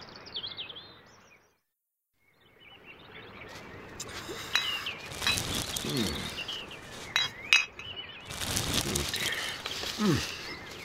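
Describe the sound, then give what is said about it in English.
Glass bottles clink together in a handful of sharp, irregular knocks, mixed with rustling and sloshing handling noise, after a brief silent pause near the start, as a man takes glass bottles and plastic bags out of a lake. “I'm taking the glass bottles and plastic bags out of the lake because they're dangerous for wild birds.”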